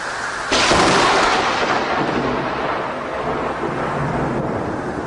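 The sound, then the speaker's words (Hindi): A loud crack of thunder bursts in suddenly and rolls on as a broad, sustained rumble, with a steady wash of rain-like noise beneath it and no voices. “इतने में जोरों की बिजली कड़की।”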